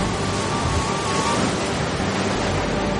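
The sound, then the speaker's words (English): A loud, steady roar of stormy seas around a ship, with waves churning and crashing amid gusting wind and rain, continuous for the whole few seconds with no voices. “The rain blew and the waves crashed.”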